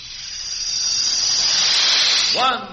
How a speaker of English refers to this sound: Have you heard a jet plane take off? Listen. That's power.